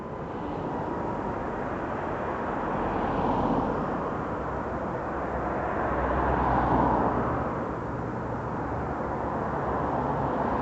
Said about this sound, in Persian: الان خیال کنین سوار ماشین هستیم و داریم میریم به سمت صحرا. بله، ماشین سواری.